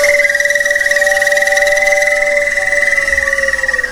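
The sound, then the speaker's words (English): Steady electronic tones from Laurie Anderson's installation Park for Singing Trees in Basel, Switzerland, hold a sustained pitch with a rapid, pulsing chirr, like synthetic crickets and birdlike whistles, continuous and fairly loud, with no talking. “Electronic birds, crickets, and alien sounds seem to emerge from everywhere.”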